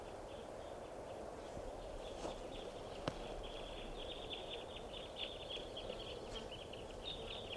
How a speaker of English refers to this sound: Must be 20 birds.